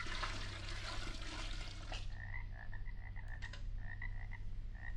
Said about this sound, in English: Instead of nightingale's tongues, I'll pour in some magic Transylvanian swamp water, about a gallon's worth.